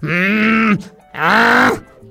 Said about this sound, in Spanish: Era un burro cagando. Dice, a mí no me dio miedo, pero después dije, ¿qué tal si me patea o me caga?